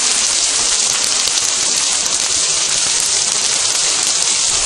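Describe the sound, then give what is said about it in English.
Hailstones pelt a glass plate roof during a thunderstorm, recorded with a voice recorder, in a dense, unbroken hiss of countless tiny, bright impacts, loud and steady throughout with no voices. “This is hailstones hitting the glass plate roof.”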